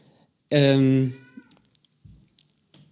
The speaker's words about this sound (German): So, ich glaube, deine Katze hat Hunger. Ich höre sie die ganze Zeit und es fällt mir schwer, mich jetzt noch weiter auf das Gespräch zu konzentrieren.